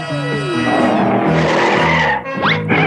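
A car skids with a loud tire squeal, a continuous high screech that bends and shifts in pitch over a few seconds, rising sharply near the end over an engine rumble.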